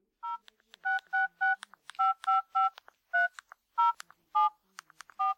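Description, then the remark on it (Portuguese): Telephone keypad tones dialing the Disque 100 hotline number: a quick run of about a dozen short, steady beeps, each a pair of mid-pitched tones, with brief gaps and clicks between them and no voices. “É só teclar 3 números. 100. Não importa qual o telefone.”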